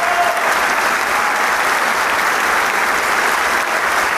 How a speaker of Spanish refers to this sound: Que se hace respetar con este aplauso, escuche nada más. Ya entran las otras secciones que faltaban y se ponen de pie toda la camerata para recibir este magnífico aplauso.